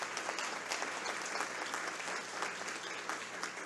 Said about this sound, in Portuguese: Pedimos assim também mais uma vez uma salva de palmas.